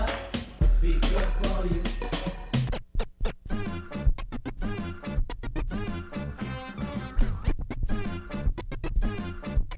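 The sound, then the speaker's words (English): Rapid DJ turntable scratching over a beat: quick, rhythmic back-and-forth chirps and swishes, loud and busy, with a deep bass hit early on and no voices. “Can you flip it, scratch it, and just get downright funky on the turntables?”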